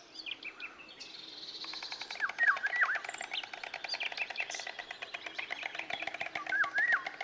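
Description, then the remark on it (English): Summer-nesting migratory birds in Caballeros Park sing at once, a dense chorus of high twittering phrases and quick repeated chirps layered over one another, steady throughout with no voices. “Look now at the right panel, where you can see a third group of migratory birds in Caballeros Park. They are the summer nesting birds.”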